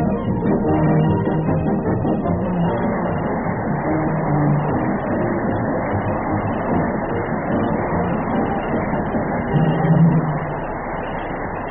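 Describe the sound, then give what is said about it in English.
A shiny new car driven by W.C. Fields drives off toward Hollywood: a steady, dense rumbling engine roar that holds for about twelve seconds with shifting low tones and a brief swell near the end. No voices. “He swapped his newly acquired department store for a shiny new car and motioned his way to Hollywood”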